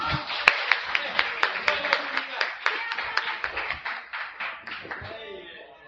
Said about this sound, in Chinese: 他们全家，我们给他们点掌声好吗？